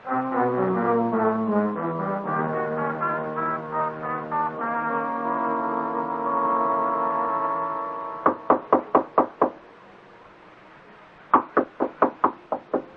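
knocking on a door

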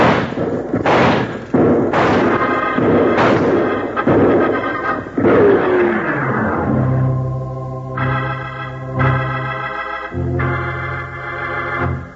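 gunfire

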